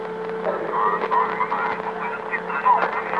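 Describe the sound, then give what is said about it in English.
A steady electrical hum with a low drone from open telephone lines patched onto a loudspeaker, overlaid by a murky wash of faint, garbled crosstalk voices like many people murmuring at once, with occasional brief chirps and warbles. “Come on, it sounds like a thousand people talking or whispering.”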